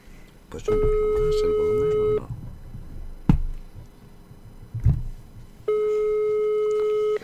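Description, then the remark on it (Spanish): Two long, steady telephone ringback tones sound a few seconds apart, each lasting about a second and a half, with faint background noise and a couple of soft knocks in the gap. “Un poco acojonado porque al quinto tono no me cogías”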